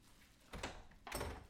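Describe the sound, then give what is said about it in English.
A door opens with two short bursts of scraping, rattling noise, the second following about half a second after the first, with no voices. “Open up. I know you're in there.”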